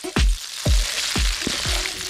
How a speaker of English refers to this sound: And when it's shimmering, it's a great temperature to cook onions and vegetables and things like that. You'll hear a nice sizzle when things go in. Sizzle.